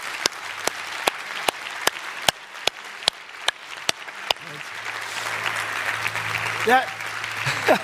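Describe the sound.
An audience applauds its custodians and maintenance people for taking care of the church building, a steady wash of clapping with one loud, sharp clap cutting through at an even beat for the first half. The applause carries on, joined by a few raised voices near the end.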